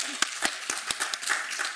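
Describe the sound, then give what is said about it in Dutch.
A group applauds a child's appointment as a municipal children's council member, with a dense wash of clapping and a few sharper, louder claps standing out every fraction of a second. Moderately loud, with no talking. “Applaus jongens!”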